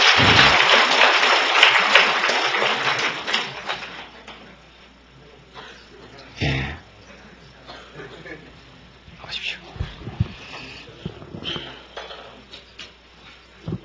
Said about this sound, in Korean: 예, 우리 할머니가 용기가 있으시네. 박수 한번 쳐주세요.